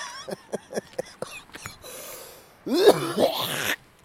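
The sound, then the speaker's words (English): A person imitates spitting with their mouth: a few soft lip clicks, then a loud, breathy, gurgling burst lasting about a second before trailing off. “I didn't spit really, that was a joke.”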